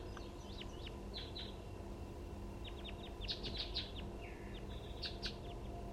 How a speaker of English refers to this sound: There are more than one wild bird.